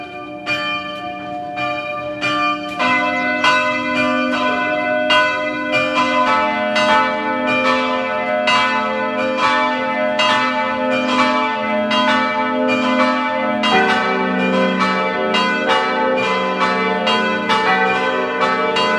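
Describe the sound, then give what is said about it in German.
The bells of the parish church of Pack, a mountain village in western Styria at 1125 metres, ring at 12 noon in a full, continuous peal, overlapping strikes rolling on steadily with a rich ringing hum underneath, loud, with no voices. “Es ist 12 Uhr. Sie hören die Glocken der Pfarrkirche Pack in der Steiermark.”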